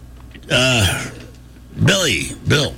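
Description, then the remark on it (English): Three loud, heavy breaths into a microphone, voiced and groaning, each rising and falling in pitch, with a longer gap after the first and two coming closer together at the end. “So I guess instead of screaming into a microphone, I'll just start breathing heavily.”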